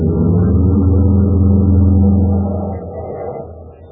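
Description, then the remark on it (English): A car engine drones steadily in a loud, low, humming rumble for a couple of seconds before gradually fading away as the car is driven off toward a fuel tank. “I'll follow as soon as I head the car right for that fuel tank.”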